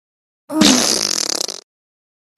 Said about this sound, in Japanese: このおなら穴からブーブーおならこいてるのよ。ほら、もう一発。